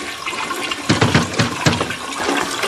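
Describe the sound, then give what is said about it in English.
A toilet in a home flushes on its own for no reason with a loud rushing gurgle of water, followed by the steady hiss of the tank refilling, with no voices. “But then her home didn't have a toilet that flushed for no reason.”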